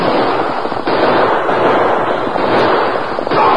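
A dense, loud barrage of gunshots in a shootout, sharp cracks firing rapidly and overlapping into a continuous rattling roar that barely lets up for the whole stretch, with no voices.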